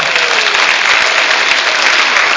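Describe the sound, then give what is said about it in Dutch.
Steady, loud audience applause for the winning contestants of a Christmas quiz, a dense wash of many hands clapping at once with no pauses, filling the whole stretch without any voices on top. “Ik wil een heel groot applaus voor deze kanjers.”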